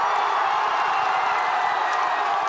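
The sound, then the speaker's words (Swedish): A large crowd of French football fans cheers and shouts continuously, a dense, loud roar of voices with scattered whoops and clapping, steady throughout without pause. It is the day after the 2006 World Cup final, and they are hailing France's national team despite its loss to Italy. “Och franska fans hyllar nationens fotbollslandslag trots finalförlusten mot Italien.”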